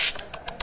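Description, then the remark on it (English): A quick, even run of sharp mechanical clacks of keys striking on a typewriter, about five or six strikes in under a second, fairly quiet with no voices. “we also had something called a typewriter, but I'll get into that another day.”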